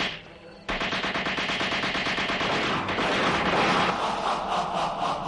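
A loud, sustained burst of rapid automatic gunfire erupts after a brief quieter moment and rattles on continuously to the end, like a firing squad opening fire, with no voices.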